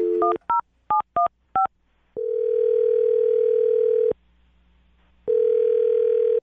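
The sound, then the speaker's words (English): A quick run of touch-tone dialing beeps as a phone number is dialed to place a call, then a steady ringback tone that sounds for about two seconds, stops, and starts again. Clear, with no voices. “I'm going to dial his phone number right now and let you make your Awkward Tuesday phone call”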